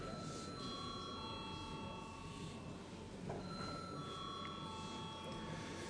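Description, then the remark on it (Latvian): A parliament chamber's electric bell, rung before a vote, rings continuously for several seconds, a sustained high metallic tone over a low murmur of background chatter. “Lūdzu, zvanu.”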